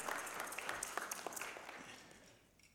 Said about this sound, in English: So I think we have to be more thankful for our beautiful children for their performance this morning. Can you clap for yourselves, please? Clap for yourselves. Well done.